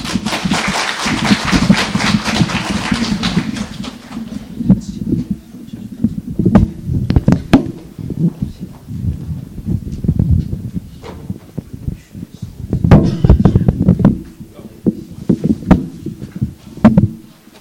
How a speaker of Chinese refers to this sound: 大家鼓掌。